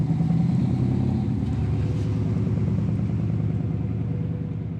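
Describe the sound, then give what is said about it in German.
A car drives along a country road north of Berlin, beside a stretch of forest, its engine giving a steady, loud low rumble with a faint clattering texture, continuous throughout and easing slightly toward the end. No one speaks. “sitzt im Auto nördlich von Berlin und blickt auf ein Stück Wald.”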